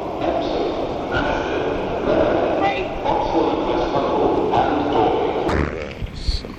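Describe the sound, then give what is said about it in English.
Busy railway station concourse ambience at Waterloo station, walking through the main concourse toward an escalator: a steady wash of crowd murmur and indistinct chatter with rail hum underneath, and a sharp metallic clank near the end. “Walking through the main station concourse to the S escalator, it'll take you to Waterloo East.”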